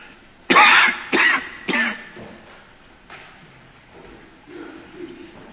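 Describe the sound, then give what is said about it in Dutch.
Three sharp coughs in quick succession during a church service, a small throat-clearing burst that fades into quiet with faint murmuring afterward. “Ook dat is blijkbaar weer een gewoonte, want vanmorgen in de dienst op diezelfde tijd begon dat kuchje ook.”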